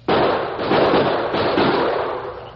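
A sudden volley of shots from a pair of pistols fired in the alley beside the Longhorn Cafe erupts and runs together into a dense, crackling barrage that stays loud for over two seconds before easing slightly. No voices are heard.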